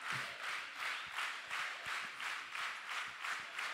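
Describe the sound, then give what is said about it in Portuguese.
A crowd in a church claps together for a woman's birthday in a steady, rhythmic beat, the dense applause swelling in regular pulses at a moderate level with no voices standing out. “Vem cá, dá uma salva de palmas para ela.”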